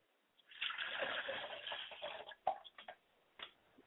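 Liquid is poured as a libation in honour of a mother, in a steady, splashing stream for about two seconds, then trickles off into a few scattered drips and splatters.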